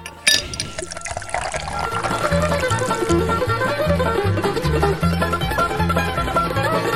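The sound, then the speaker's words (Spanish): Wine from Ohio pours steadily into a glass with a continuous bubbling gurgle for about seven seconds, over a low, rhythmic tonal hum. “Dame un trago de ese vino de Ohio.”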